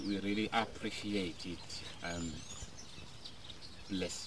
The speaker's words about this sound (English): lovely to hear bird song in Eswatini, just as we're listening to the bird song here,